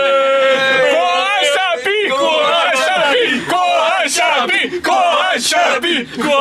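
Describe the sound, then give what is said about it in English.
Nine Shenhua football fans chant and shout together in a very small train compartment. Their loud, ragged voices rise and fall with sharp bursts of yelling throughout. “Pick a number and double it, and you just heard nine Shenhua fans in a very small compartment.”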